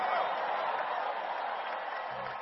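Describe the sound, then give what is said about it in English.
An audience claps and shouts praise to the Lord together, a dense, steady roar of applause and voices that holds at an even, fairly loud level throughout without pause. “Can you give the Lord a bigger clap and a shout of praise?”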